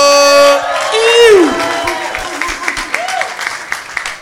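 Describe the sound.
An audience breaks into applause and cheering, with loud whoops and voices sliding in pitch at the start, then settling into steady scattered clapping with an occasional cheer.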